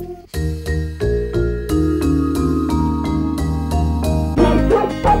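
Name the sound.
dog barking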